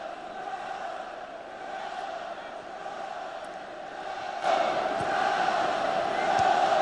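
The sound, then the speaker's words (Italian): A large stadium crowd of football fans, believed to be Wales supporters shouting "Wales", chants and roars continuously, a dense wall of massed voices that swells noticeably louder partway through and stays loud to the end. “Sto cercando di capire chi erano questi, credo i tifosi del Galles.”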